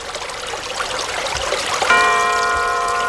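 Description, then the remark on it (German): A brook flows steadily with a constant babbling, rushing texture, and partway through a bell is struck once, its clear ringing tone lingering over the water. “Ist das ein großer Fluss oder ein Bach vielleicht? Kann auch ein Bach sein, ja. Bach, wir halten fest.”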